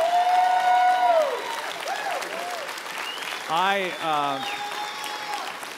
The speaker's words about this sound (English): My wife really should be here to receive that applause, more so than me.